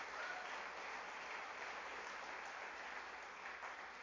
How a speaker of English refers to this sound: Come on, give him a good clap offering, would you? Come on.